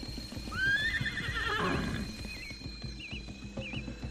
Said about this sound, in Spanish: Se movía de un lado a otro relinchando hasta que cayó rendido.